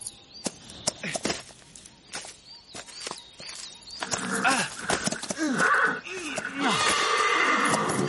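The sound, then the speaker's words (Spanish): A horse is stopped by its rider in front of a fence in a forest: its sharp hoof clops come to a halt, then the horse lets out a loud, drawn-out neigh with rising and falling whinnies, prominent. “Para su caballo frente a una cerca que reza: si no quiere molil, no pase.”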